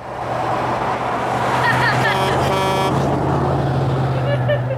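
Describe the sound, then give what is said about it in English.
Two semi-tractor trailer trucks drive past with a steady low engine drone, sounding two loud, brassy horn blasts in quick succession midway through amid ongoing road noise. “We got two semi-tractor trailers to drive through that pregnant pause.”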